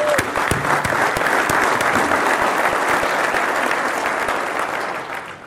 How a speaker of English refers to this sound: so I think a big round of applause